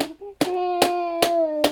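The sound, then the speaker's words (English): A child slaps and bangs with their hands during a picnic, four sharp, evenly spaced smacks about every half second, while a steady, sustained vocal hum or drone continues underneath. “No, don't slap.”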